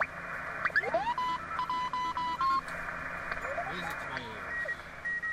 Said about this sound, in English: Morse code was dropped for military and commercial use in the 90s, but when there's a lot of interference or when too many operators are trying to use the same frequency, Morse code is easier to isolate.